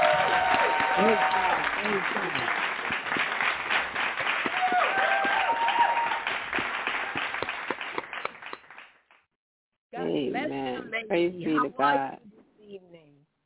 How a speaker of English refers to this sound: So we are going to welcome Amen. Her with a hand clap praise.